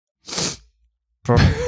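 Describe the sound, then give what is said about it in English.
A short, airy sniffle lasting under half a second, followed after a brief silence by a louder, rougher burst of breathy noise with a faint buzzing tone. “Because I had a sniffle and the little purr.”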